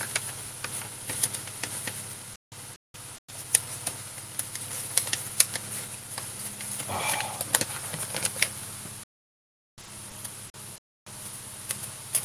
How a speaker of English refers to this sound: And it's a little difficult for me to get these pages turned. One of the reasons I like that electronic Kindle so much, the larger font and the not having to turn paper pages. I'm sorry, these are really stuck together today.